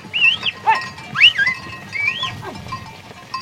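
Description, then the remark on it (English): Livestock herded by Maasai families outside Arusha, Tanzania, bleating in overlapping bursts, several quavering, high-pitched calls rising and falling over about three seconds against a steady low background murmur, with no talking. “Outside Arusha, Maasai families herd livestock”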